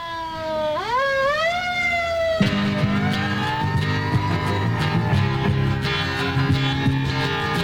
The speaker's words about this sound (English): And, well, basically, the cops are after him. So that's another clue for you there, as you can hear by the sirens in the record.